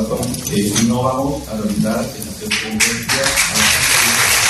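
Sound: applause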